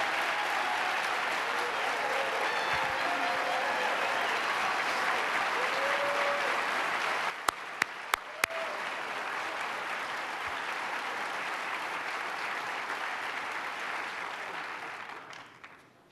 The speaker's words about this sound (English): And let's give them a round of applause and their leader, Speaker Carl Heasty. Stand up, Speaker Heasty.